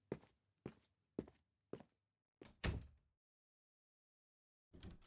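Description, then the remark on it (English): Four steady footsteps thud across the floor as someone goes to their room, followed by a louder door swinging shut with a solid thump, then quiet before another faint rustle at the end. “I'm going to go to my room and close the door, okay?”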